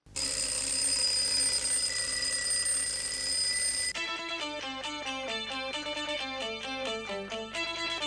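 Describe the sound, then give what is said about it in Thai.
A new Sensorwake scent alarm clock rings loudly in its normal sound alarm mode. First comes a harsh, continuous metallic bell rattle for about four seconds, then it switches to a repeating electronic melody of bright tones. “และหากว่ากลิ่นของนาฬิกาปลุกรุ่นใหม่นี้ยังไม่สามารถทำให้คุณตื่นได้สำนักข่าวบลูมเบิร์กบอกว่านาฬิการุ่นนี้จะปรับโหมดมาปลุกด้วยเสียงปกติแทนครับ”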